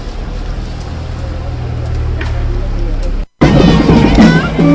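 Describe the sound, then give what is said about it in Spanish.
A car rumbles past on a street, its low engine noise steady for a few seconds, then an abrupt cut leads into people talking over street noise. “y nosotros con este, bueno, con este coche que pase, que ya tenemos nosotros que pasar, nos vamos a despedir pulsando la opinión siempre en la calle.”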